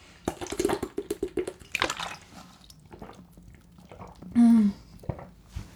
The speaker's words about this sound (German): ich muss mal einen Schluck trinken, ich habe so einen trockenen Mund gerade, Gott, oh Gott.